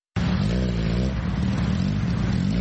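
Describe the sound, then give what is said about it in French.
Motorcycle engines rev loudly in Nairobi, Kenya, a dense, throaty drone that rises and falls in pitch without a break for the whole stretch, with no voices. “Écoutons le ronflement des deux roues dans un reportage”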